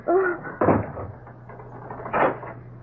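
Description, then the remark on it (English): A closet door creaks open and then bumps shut a moment later, two moderately loud wooden knocks over a faint low hum, with no one speaking. “Now get into that closet. Oh. Open the door. Inside.”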